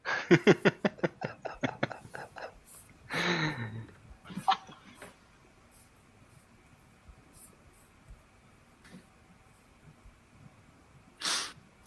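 A man clears his throat as he prepares to read aloud: a rapid run of rough, raspy throat-clearing bursts, then a longer gravelly clearing and a short snort-like huff, followed by quiet and one last brief burst near the end.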